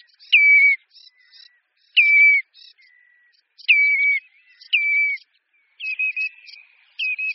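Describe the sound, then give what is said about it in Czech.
Common redshank calling: loud, clear whistled notes repeated in about five short bursts, each with a quick trailing flourish, with no other sounds or voices. “Poznat vodouše rudonohého mezi jinými bahňáky je poměrně snadné.”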